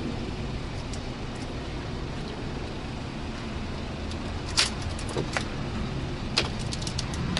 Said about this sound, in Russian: Видите, сыпятся стеклышки. У меня такое ощущение, что там этого стекла внутри, наверное, на килограмм.